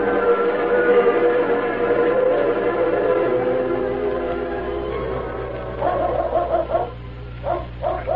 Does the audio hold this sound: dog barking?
yes